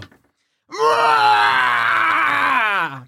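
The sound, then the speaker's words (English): A person voices the scream of Cribbit, a creature: one loud, sustained, strained cry lasting about two seconds, its pitch sagging slightly before it cuts off, with no talking. “Someone hears Cribbit's scream.”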